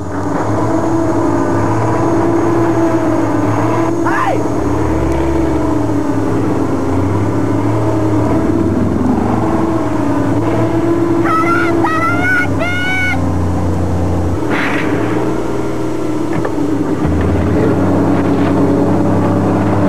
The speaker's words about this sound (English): then a tow truck starts driving without a driver and tries to run over Curtis